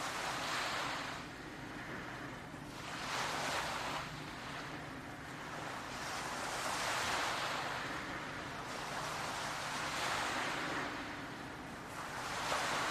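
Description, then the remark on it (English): Soft, gentle ocean waves lap in and recede in a slow, steady rhythm in the early morning sunlight, each swell rising and fading every few seconds, with a low constant rumble of surf and a light breeze underneath. “How this morning light, how these peaceful waves seems to benefit your whole body, every organ, every particle of your being.”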